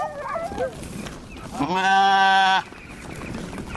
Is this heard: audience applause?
no